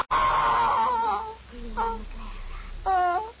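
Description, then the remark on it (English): A woman screams in long, wavering, high-pitched cries, loud, breaking into a shorter sob-like wail, then a final shrill burst near the end. “Scream, ….”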